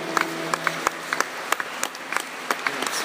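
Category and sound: crowd, applause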